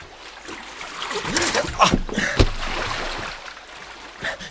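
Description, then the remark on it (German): A rowboat sloshes and splashes through water, with a sudden dull knock as it runs aground on what seems to be a tree stump and gets stuck, then lighter dripping and sloshing. “Ein Baumstumpf, oder? Ach, Mist, wir sitzen fest. Ich krieg das Boot nicht los.”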